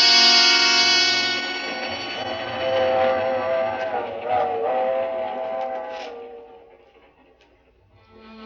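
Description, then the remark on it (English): A train whistle wails loudly over the steady rumble of a moving train bound for San Francisco, its long tone bending and wavering before both fade into quieter rolling clatter. “It was on the train that I first met”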